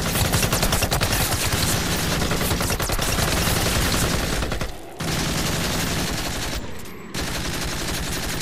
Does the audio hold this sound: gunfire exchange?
yes